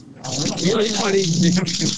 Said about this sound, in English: And that is the fresh water. Can you see? Right there, coming out. Fresh, clean water, folks. Fresh, clean water coming out for the very first time in that village.